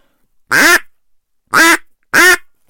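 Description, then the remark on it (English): Three loud, nasal quacks blown on a duck call, each about a quarter second long and evenly spaced with short silences between, clear with no talking. “Okay, a quack.”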